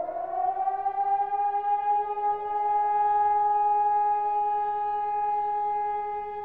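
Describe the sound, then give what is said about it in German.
A civil defense siren sounds the sharp warning tone, a loud sustained wail with strong harmonics that rises slightly and holds steady, heard alone without any voices. “Zunächst ein langer Dauerton, Endwarnung und nach einer Pause ein Auf- und Abheulen. Das erst ist der scharfe Warnton.”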